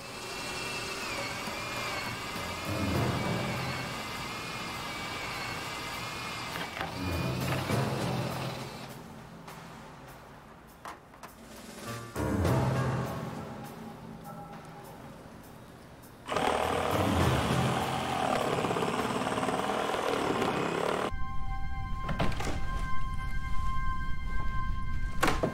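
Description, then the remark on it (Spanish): A top-of-the-line electric saw and cordless drill with special noise-reducing motors whine and grind through the roof of a downtown bank in uneven bursts, with brief pauses and a steady, buzzing motor tone near the end. Fairly loud, with no talking. “Llevaba una sierra eléctrica y un taladro inalámbrico de primera línea con motores especiales que reducían el ruido.”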